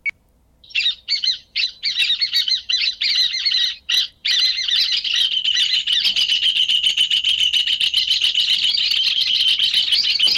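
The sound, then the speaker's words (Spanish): A rufous hornero sings loudly, starting with a few choppy bursts of notes, then breaking into a fast, continuous shrill rattling trill that carries on to the end. “Ahí escucho un hornero, no sé si el que estamos escuchando en definitiva es el hornero, el del canto principal.”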